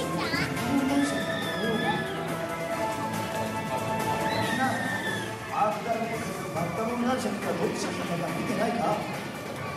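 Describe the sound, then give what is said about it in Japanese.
A crowd of children shouting and playing, calling out 'over there' to Amanonga, many high excited voices overlapping in a steady, lively clamor that stays fairly loud throughout. “ここでね、子供たちがちゃんとアマノンガーにあっちあっちとか応対してたのが可愛かったですね。”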